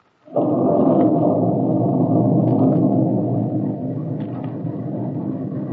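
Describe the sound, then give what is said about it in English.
Thunder from a breaking storm bursts suddenly into a loud, deep, sustained rumble that rolls on steadily, easing only slightly toward the end. No voices are heard. “With the breaking of the storm, the light in the kitchen went out.”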